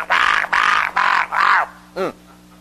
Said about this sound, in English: Let me clear my throat.